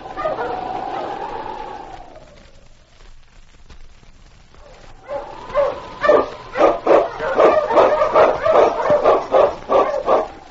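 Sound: dog barking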